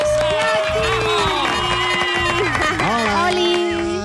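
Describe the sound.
An audience on a Catalunya Ràdio show applauds loudly and steadily for about four seconds to welcome a guest, with excited cheering and whooping voices rising and falling throughout the clapping.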